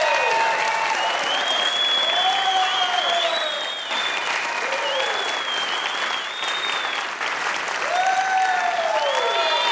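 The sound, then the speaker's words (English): A church audience breaks into sustained applause and cheering for people standing up to accept Christ, with dense clapping filling the space and a few whoops and shouts rising above it throughout. “So if you're here this morning and want to accept Christ as your Lord and Savior, just stand, safe place here. They'll cheer like they did for those in baptism.”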